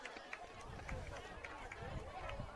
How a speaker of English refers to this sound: That's how the equipment out here sometimes gets knocked around a little bit when the crowd gets crazy. And we're sitting in the middle of the crowd again today, because when they built this press box here, they decided to make it way too small.